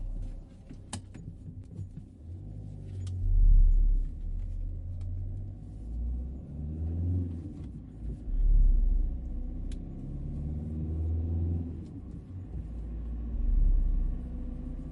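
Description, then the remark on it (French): A car drives home quickly with a steady, deep engine rumble, swelling louder every few seconds as it accelerates, with a few faint clicks and knocks over the continuous road drone. “Elle prend sa voiture et rejoint rapidement son domicile.”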